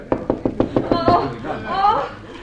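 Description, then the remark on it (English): A quick, even series of about six fairly loud knocks on the door of a room at the end of a corridor, followed right away by someone starting to speak. “Well, knock.”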